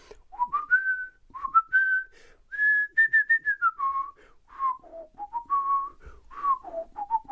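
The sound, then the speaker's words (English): Someone whistles the Song of Storms melody from Ocarina of Time alone, a lilting run of quick and held notes that climbs, hovers, then drops in repeating phrases, clear and fairly loud. “Ocarina of Time, Song of Storms in particular. Anybody know? Anybody hear what I'm putting out there?”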